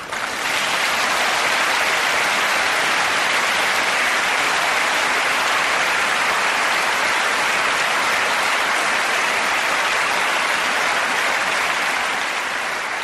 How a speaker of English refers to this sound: Crikey, that was a long bit of applause there.